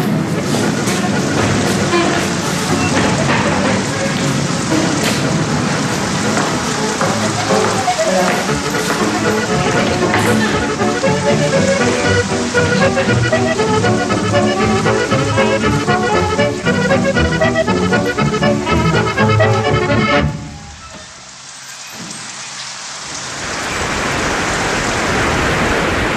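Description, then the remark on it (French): Heavy rain drums steadily on the glass roof of the central pavilion of a familistère, a workers' social palace. It is a dense, loud, echoing patter with indistinct voices mixed in, before it abruptly drops away to a much quieter hush near the end. “Et là, on entend la pluie qui tombe en fait sur la verrière.”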